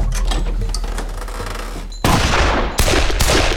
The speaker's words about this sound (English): From flat on his back on the floor, Nathan fired three times. The door was slammed shut from the force of the lead, and Nathan remained where he was, listening.